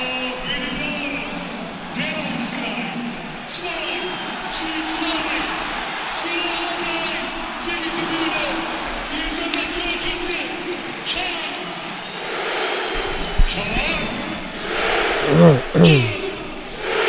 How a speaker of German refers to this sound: Ein Wahnsinnsding und ich lasse sie jetzt mal diesen Torschützen und den Jubel genießen. Wir werden mal kurz schweigen hier, denn wir sind irgendwie völlig platt.